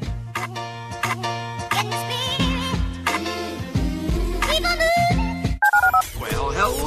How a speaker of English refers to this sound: Dial the phone.